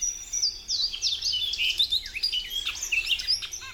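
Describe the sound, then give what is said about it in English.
A bunting sings a bright, high-pitched song of quick sweeping notes and short trills, repeated in continuous phrases, clear with no voices. “Female buntings know what they like, and arriving from Mexico and Central America, they search for just such an ecotone.”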